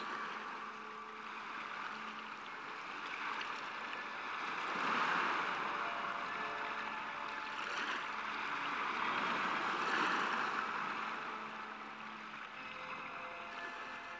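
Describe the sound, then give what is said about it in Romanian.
Sea waves surge and crash against a rock during a thunderstorm, swelling loudly around two peaks before easing back, scattering a rain of spray, with a steady wash of spray and water noise throughout and no voices. “Marea se lovea de stâncă și împrăștia o ploaie de stropi peste dânsii.”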